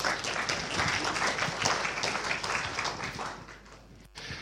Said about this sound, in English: Excellent. Great applause.